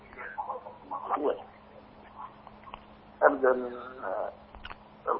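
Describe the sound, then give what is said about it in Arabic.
Muffled television audio playing behind a caller comes through a narrow telephone line, with indistinct voices rising and falling over a steady low electrical hum, moderately loud. “حاول تخفض صوت التلفزيون وتسمعني من الهاتف فقط.”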